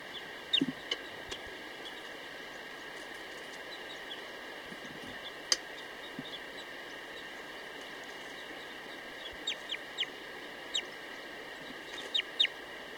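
female bird singing

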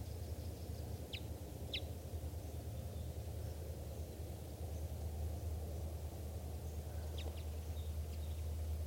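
bird chittering

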